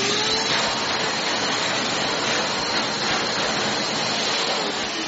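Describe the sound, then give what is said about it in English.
A vacuum cleaner runs steadily, a loud, constant whooshing roar with a faint whine, holding the same level for the whole stretch with no voices. “All right, Daddy, I'm going to go have more fun with my vacuum.”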